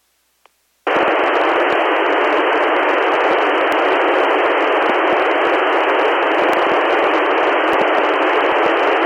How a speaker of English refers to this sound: But I have a Midland walkie-talkie that I'm having record this on Windows, and you probably do hear static when I stop. That's because I have squelch turned off.